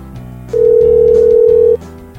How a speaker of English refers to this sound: likes the part of the show where the phones ring.